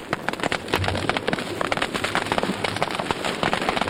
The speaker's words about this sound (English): So the scientists snuck up on individual frogs as they rested in the midday sun of the West African savanna and played them recordings of fire. Here's what the frogs heard.